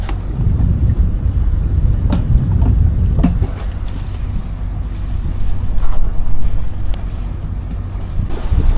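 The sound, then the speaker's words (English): A sailboat with its sails just hoisted moving along in steady wind under blue skies, with smoke visible ahead, heavy low rumbling wind noise buffeting the microphone and scattered creaks and splashes from the hull and water. No one speaks. “So this boat was so full of smoke, so full of ash. So sails up, ready to go.”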